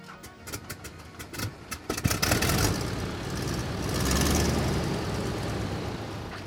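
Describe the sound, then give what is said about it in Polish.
An old Albatros biplane engine being hand-cranked at a military airfield in Bydgoszcz in December 1918: a few irregular, sputtering coughs, then a loud, rough mechanical rumble that swells briefly and sags, never settling into a steady running rhythm. No voices. “Kręć, a ja dodam gazu. Musisz mocniej kręcić. O, próbuję, ale nic z tego.”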